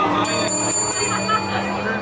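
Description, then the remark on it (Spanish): A small bell is struck four times in quick succession by the chef of a mobile Mexican food kitchen to announce that an order is ready at a taco dinner marking the end of Ramadan. Its bright, high ringing tone lingers and fades over a steady murmur of background voices and noise. “toca la campana para anunciar que la orden está lista.”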